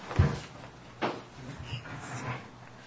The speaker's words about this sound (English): As soon as I wrestle this chair, I'll get to it. Sorry.